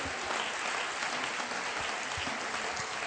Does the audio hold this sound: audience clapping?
yes